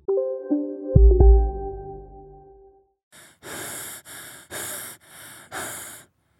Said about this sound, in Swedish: Varför andas jag så här tungt?